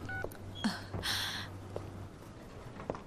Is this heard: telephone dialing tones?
yes